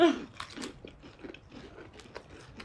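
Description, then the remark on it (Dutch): Crisp, crackly crunching of paprika potato chips being chewed, a rapid irregular series of sharp bites and munches at moderate loudness, with no talking. “Dit is paprika chip.”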